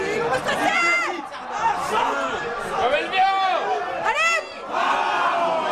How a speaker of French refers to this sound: Le match des Bleus contre l'Équateur aura été laborieux, rempli de faux espoirs. Il suffisait juste d'écouter les cris dans le bar.